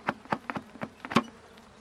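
Honeybees buzzing around an opened hive, heard as a quiet string of short, uneven buzzy bursts, about eight in under two seconds, with no talking.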